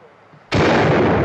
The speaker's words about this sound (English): What the thunder was that? Mate, there's a lot of, it sounds like six guns or shotguns or something going on in that show